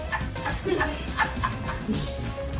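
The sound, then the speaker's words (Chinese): A husky barks deliberately at a cat in a quick, repeated series of sharp, yippy calls, moderately loud, over a steady background hum. “爱捣蛋的哈士奇快要把猫咪逼疯，每次故意对着猫咪吠叫，猫咪想静一静也不能。”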